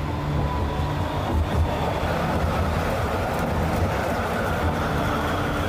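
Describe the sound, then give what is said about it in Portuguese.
A train rumbles past, a steady, dense mechanical roar with clattering low tones that holds at an even loudness throughout, with no voices. “Um trem passou.”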